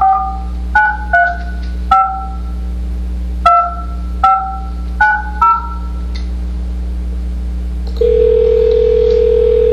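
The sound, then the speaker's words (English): A quick run of about nine touch-tone keypad beeps in uneven bursts, then a loud, steady telephone dial tone after a phone call with Bethlehem City Council cuts out holds on its own until the end, with a low hum underneath. “I apologize, my phone just cut out.”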